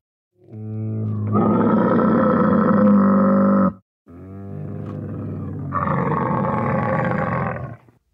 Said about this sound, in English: That's a strange sound. I've got no idea. Maybe it's an elephant? No, it's a camel.